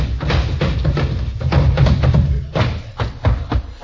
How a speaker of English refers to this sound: In the modest home of The Great Gildersleeve, there occurs a phenomenon peculiar to male youth. It is marked by the gentle pattering of feet.